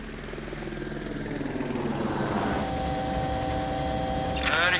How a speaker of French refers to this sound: Restez à bonne distance, je vais vous envoyer un hélicoptère sur la zone.